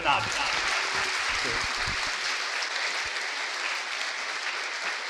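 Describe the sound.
A large audience claps steadily and loudly for several seconds as a band is announced, a dense, even wash of applause that stays strong throughout, with a hint of voices early on.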